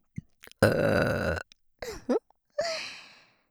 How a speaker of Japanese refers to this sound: ゲップ大好き変態さんですからね。しかも耳元でお姉さんの濃厚生ゲップじゃないと満足できないんですよね。